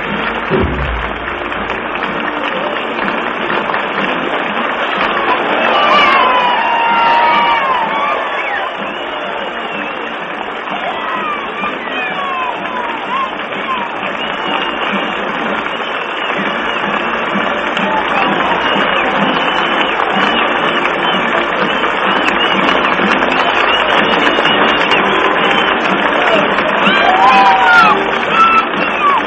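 A large crowd gives anticipatory applause as the president enters the room, cheering without pause for about half a minute, a dense, steady roar of clapping with occasional shouts and whoops rising above it.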